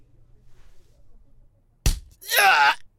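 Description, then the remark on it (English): A single hard punch to the stomach lands with a sharp thump, followed a moment later by a loud, strained groan of pain. Faint low rumble before it; no speech. “And punches me hard in the stomach.”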